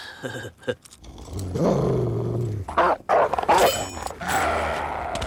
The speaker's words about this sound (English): Whoa, check it out. Stupid dog.